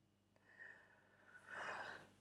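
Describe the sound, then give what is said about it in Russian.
Slow, deep breathing during a guided breathing exercise: a soft drawn-in inhale followed by a longer, fuller exhale, airy and unhurried, with no talking. “Вдох и выдох.”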